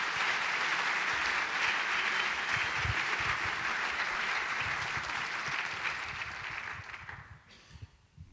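An audience claps steadily in a dense, sustained wash of applause that holds for several seconds, then gradually thins out and fades toward the end.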